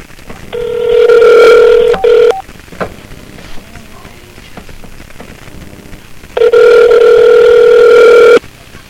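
Phone ringback tone on an outgoing call: two long, steady electronic rings about two seconds each, separated by a pause of several seconds, heard clearly through the line with no one speaking.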